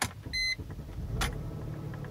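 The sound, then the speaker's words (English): A Mercedes-Benz car engine starts up, with its check engine light on: a brief electronic chime, a short burst as the starter catches, then a steady low idle rumble that continues to the end. No one speaks. “Let me turn this car on so you guys can hear it turn on.”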